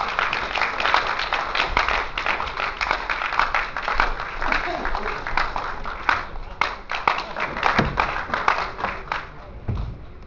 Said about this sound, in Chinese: 让我们掌声欢迎甄先生跟我们做主播。